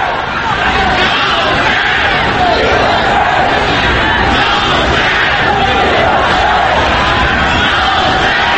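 Iranian spectators at the Iran vs Singapore football match in Singapore, during the AFC Asian Cup, roar and chant political slogans in unison, including "Ya Hossein, Mir Hossein" and "Death to the dictator": a loud, continuous wall of massed voices with rhythmic swells and no pauses throughout.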